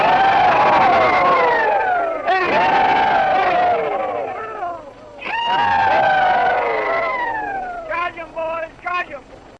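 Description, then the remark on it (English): A 1930s recording of old Confederate veterans letting out the rebel yell: three long, high, wavering whoops that slide downward in pitch, followed by a few short, choppy yips at the end. “Folks, you might not know if you hadn't been to our website this week, but that was an actual Confederate veteran in a recording taken in the 1930s.”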